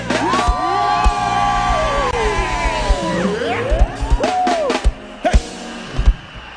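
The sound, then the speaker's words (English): A large audience screams and cheers loudly and continuously, with sustained shrieks and whoops, scattered claps and rising, falling yells filling the space for several seconds. “Who am I talking about? Scream!”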